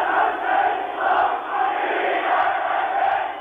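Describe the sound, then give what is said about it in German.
A large crowd in Erfurt, East Germany, cheers and chants enthusiastically for West German Chancellor Willy Brandt on his visit to meet Willi Stoph in March 1970, a dense roar of many voices swelling in rhythmic waves roughly every second, loud and continuous with no single voice standing out. “Als Willy Brandt im März 1970 mit dem Zug in ein Ausland reist, das Deutschland heißt, und sich mit DDR-Ministerpräsident Willi Stoph trifft, kennt die Begeisterung keine Grenzen.”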